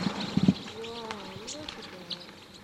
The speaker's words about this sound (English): There's a whole big flock of crossbills in a Douglas fir right here foraging on the combs.